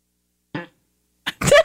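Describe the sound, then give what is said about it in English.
A fart sound effect played on request from an Alexa smart speaker: a short puff, a brief pause, then a louder, longer sputtering blast. “Asking me for a lovely fart.”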